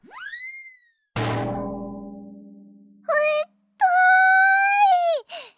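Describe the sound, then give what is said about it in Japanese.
A rising whistle as a metal washtub drops onto someone's head in a cave, then one loud clang that rings and slowly fades, followed by two pained, moaning vocal cries. “何よこのたらい、古いお笑いのネタじゃないんだから。”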